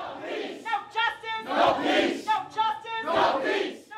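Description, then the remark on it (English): A crowd of a dead man's loved ones, marching into police headquarters and raising their fists, chants loudly in unison at officers behind glass, voices rising and falling in a steady repeated rhythm of shouted phrases, with a dense mass of overlapping voices throughout. “They raised their fists at the officers they could see behind the glass and chanted at them.”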